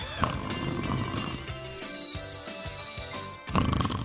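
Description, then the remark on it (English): A sleeping woman snores with rough, rumbling breaths in a loose rhythm, moderately quiet, during the WGN Radio Theater broadcast at 1:35 in the morning, with a faint steady background hum and no talking. “snoring over there.”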